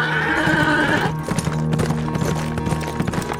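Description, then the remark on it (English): A horse neighs loudly with a high, shrill whinny, then hooves clip-clop in a steady rhythm as its rider draws up at the outskirts of the town of San Leon, the horse breathing laboriously, with no voices. “When he drew up in the outskirts of the town, his horse was drawing laboring breaths.”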